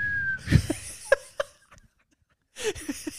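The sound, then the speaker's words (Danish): Someone imitates how they breathe while asleep lying awkwardly with a bite splint: a thin, steady whistle tone fading into breathy puffs and soft chuckling sounds, with a short pause before more breathy bursts, moderately loud. “så kan jeg trække vejret, som om jeg sådan fløjter ud. Sådan Peter Plys, når han sover.”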